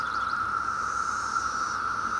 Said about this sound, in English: This is Brood 10, 17-year periodical cicadas. That's the big boy band up in the treetop. Right now it's all about romance.